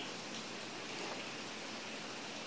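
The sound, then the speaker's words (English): Steady, quiet patter of raindrops falling, a soft continuous hiss with fine crackling texture and no voices, evenly spread across the whole moment. “And this sound of the raindrops is the teaching of the Dharma.”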